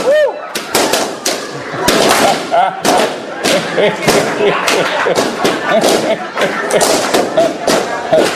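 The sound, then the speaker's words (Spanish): A rapid, irregular burst of sharp pops as many balloons are burst one after another, loud and crackling, with excited voices and shouts mixed in among the bangs. “Y ahora vamos a liberar la energía de esos globos. ¡Estállalos!”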